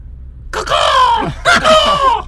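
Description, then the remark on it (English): A human voice imitates a night parrot call: two drawn-out, wavering, screechy cries, the second following a brief pause, fairly loud and alone. “The night parrots, they just make a different sound from the day parrots.”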